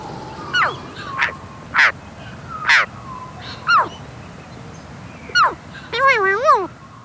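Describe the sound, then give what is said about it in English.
A western magpie calling: a series of six harsh, chattering squawks spaced irregularly, then a longer wavering, warbling call at the end, over a low steady background rumble. “Yeah, the western magpie is an accomplished mimic.”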